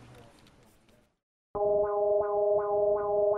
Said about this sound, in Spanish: Suena la alarma sísmica. Esto es extraño. Me imagino que es un error del sistema. Justo apenas hace 2 horas tuvimos el simulacro.